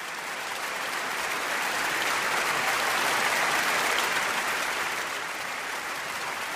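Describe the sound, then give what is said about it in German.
A theatre audience at the Deutsches Theater in Berlin applauds in a steady, dense wash of clapping that swells slightly toward the middle and then eases, with no voices heard. “Applaus für Regina Voss und Pina, die für uns am Deutschen Theater in Berlin waren.”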